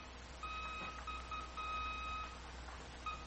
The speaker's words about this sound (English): your clock and figure say you're ready to enter the Los Angeles radio range, a radio beam that'll buzz in your headset to lead you to the field on instruments, the L.A. sounding now in your ears.